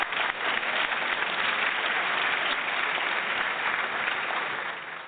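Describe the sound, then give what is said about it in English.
A steady burst of clapping, dense and crackling like a small crowd applauding, given as birthday applause for cast members of a TV show, holding at an even level for about five seconds before tapering slightly at the end. “So let's give them some birthday applause, and happy birthday to guys.”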